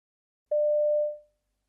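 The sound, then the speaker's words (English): A single steady electronic telephone tone sounds once, clear, holding for about half a second before fading away, with silence on either side and no voices, as someone phones a hotel and reaches a recorded message. “You hear a recorded message when you phone a hotel.”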